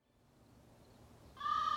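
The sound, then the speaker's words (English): A low rumble slowly builds, then a loud, harmonic cooing call from two crows cooing to each other in tree branches bursts in near the end and holds steadily for a moment, with no voices. “Two crows were cooing to each other in the branches.”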